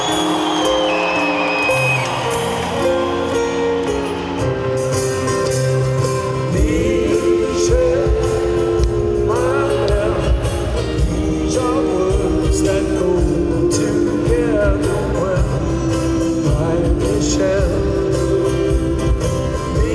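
A concert crowd cheers and screams, a loud, steady wash of voices blended with sustained music that swells after the first few seconds and keeps going throughout.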